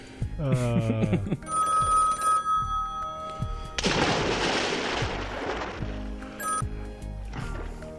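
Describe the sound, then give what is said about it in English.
A telephone rings with steady, bright electronic tones after a brief rising warble, then a loud burst of rushing noise takes over before the ringing returns faintly. “You keep calling, but we'll keep soaking.”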